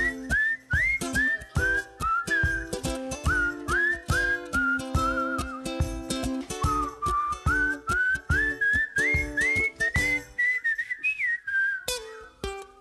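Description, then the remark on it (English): A person whistles a bright, steady Christmas song melody, the tune rising and falling over a full backing band with a regular beat; no one speaks. “Sing or whistle with me.”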